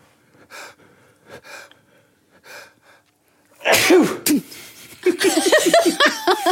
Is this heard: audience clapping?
no